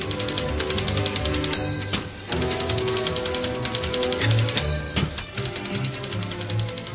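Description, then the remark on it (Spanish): A rapid clatter of typewriter keys over a driving musical bed, a jingle introducing the news, with dense, rhythmic tapping and a couple of brief pauses broken by bell-like dings. “Y ahora vamos a meter la ráfaga de la máquina de escribir, porque vienen las noticias.”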